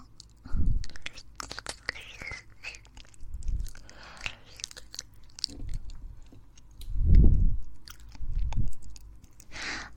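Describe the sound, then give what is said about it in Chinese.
Wet mouth sounds of fingers moving in a mouth and working the tongue: sticky smacks and soft clicks in irregular bursts, a few louder squelches standing out against quieter slurping in between, with no talking. “先生用手指不停地嚼我不听话的舌头，真的很喜欢呢。”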